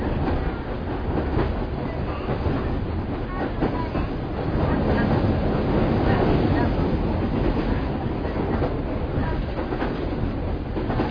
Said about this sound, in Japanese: そして大井川で一番長い吊り橋の下まで列車を通ります、左側の道路とこの線路、一緒に川を渡いで長さ220メートルあります。中央道の大吊り橋です。